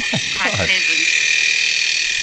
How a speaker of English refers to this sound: It's a metal fan hitting some ice.